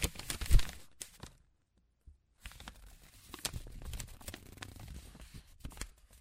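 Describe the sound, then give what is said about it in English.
Thin tracing paper, used for tracing anatomical diagrams, rustles and crinkles in short, crisp bursts, with a sharp crackle at the start, a brief pause of silence, then steady soft handling sounds. “Give me some thin paper. Here. I use it for tracing anatomical diagrams.”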